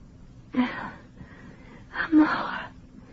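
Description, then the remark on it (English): A woman burning with childbed fever gasps while drinking water given by a doctor: two strained, breathy gulping gasps about a second apart, moderately loud over a faint low rumble. “Here. Drink.”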